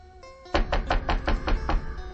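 A series of about seven firm knocks on a door from outside, in a quick, steady rhythm, fairly loud, following a brief quiet moment with faint background hum.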